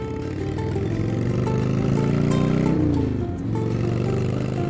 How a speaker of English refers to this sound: The motor rumbles and growls.